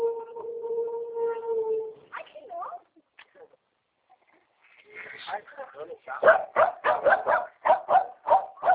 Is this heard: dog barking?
yes